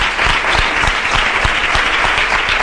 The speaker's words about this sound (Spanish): El aplauso ahora de los hermanos de la hermandad de los gitanos.